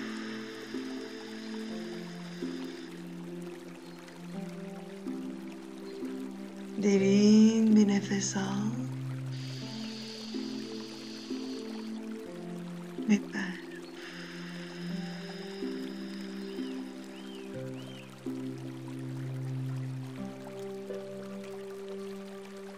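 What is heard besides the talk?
flowing river water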